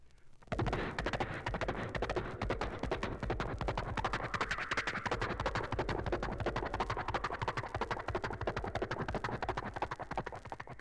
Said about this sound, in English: Now let's bring the horse up to a gallop.